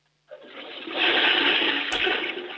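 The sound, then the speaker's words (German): A toilet flushes with a loud, sustained rush of water that swells quickly after a brief silence and keeps roaring steadily to the end, with a short click partway through. “Boah, das ist aber eine laute Klospülung.”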